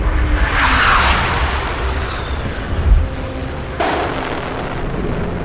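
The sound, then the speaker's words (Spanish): Heavy explosions as aircraft bomb the Palacio de la Moneda in Chile roll through a hissing, noisy recording: a long rumbling blast swells early, then another sharp burst hits suddenly and leaves a sustained roar. “Los aviones siguen atacando al Palacio de la Moneda.”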